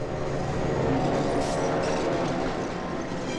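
A train rumbles steadily along railway tracks, a loud, continuous mechanical roar with a brief hissing swell partway through and no voices.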